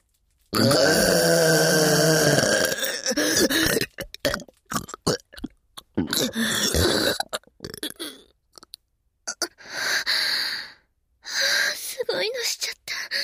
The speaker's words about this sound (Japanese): 自分の口からあんなはしたないゲップが出るなんて。